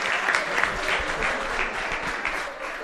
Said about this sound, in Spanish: Un aplauso, no que bien has hablado y no querías.